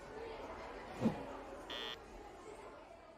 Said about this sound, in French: Le bruit de la classe.